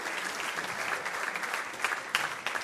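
An audience claps in a steady, dense round of applause, a broad crackling wash of many hands with a few sharper claps standing out, sustained throughout without any talking.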